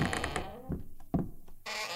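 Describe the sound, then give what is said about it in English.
A door sound effect: a rush of creaky, noisy movement, then a few dull wooden thunks as it shuts, followed by a burst of hiss at the end. “I mean, that very real recording of the actual door.”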